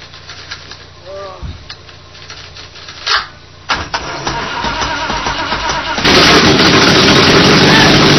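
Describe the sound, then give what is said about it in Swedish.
A petrol engine with too little petrol coming through sputters and coughs with a couple of sharp popping backfires, then catches and builds into a loud, steady, rough roar that keeps going. “Ja, det är för lite bensin som kommer.”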